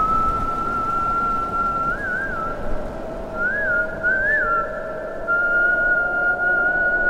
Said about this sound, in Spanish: La memoria de los cerros recupera el misterioso silbido del Coquena.